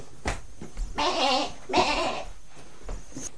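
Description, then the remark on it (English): A person imitates a sheep with two wavering, nasal bleats in quick succession, fairly loud, with faint taps and rustling around them. “We pretend to be a sheep.”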